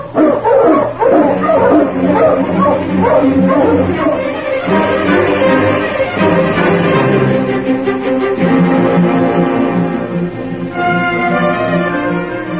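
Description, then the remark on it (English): A pack of sled dogs barks and yips excitedly and loudly as they are got up to hit the trail, their overlapping high-pitched cries forming a continuous, restless din that never pauses. “All right, get the dogs up, King.”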